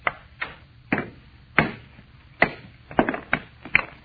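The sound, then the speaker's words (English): A hammer strikes a stone, a meteor of almost solid metal, to break it along a fissure: about ten sharp, hard knocks at an uneven pace, with a quicker cluster near the end, until it splits clean in half. No one speaks. “All I'm going to do is try and break it along this fissure. You had a hammer and a drill.”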